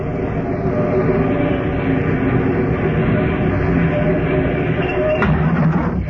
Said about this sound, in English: Then the bus came along.